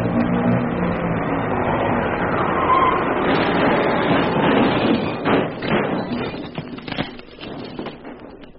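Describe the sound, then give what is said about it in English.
A car engine runs steadily with a low hum, then gives way to a series of knocks, clunks and thuds as the car is maneuvered into the curb. “We'll just get it into the curb here.”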